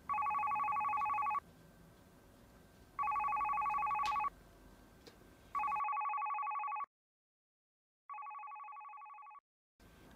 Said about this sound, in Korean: 아빠한테서 걸려온 전화. 한동안 멍하게 벨소리를 듣고 있었어. 여보세요? 그 한마디 할 용기가 안 나더라고. 전화 벨소리도 점점 지쳐갈 때쯤 전화를 받았어.